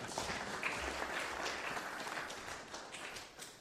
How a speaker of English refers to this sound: Big round of applause.